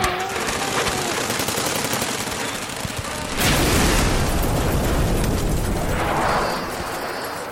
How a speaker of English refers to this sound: You know, after every explosion, a kid starts shivering like hell and never gets back to the person he was before.